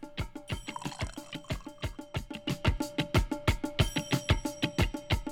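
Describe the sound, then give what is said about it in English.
Rich brown liquid glugs steadily into a glass as it is poured, a rapid run of rhythmic gurgling pulses that grows slightly fuller and louder as the pour continues, with no talking. “Let's give this a pour.”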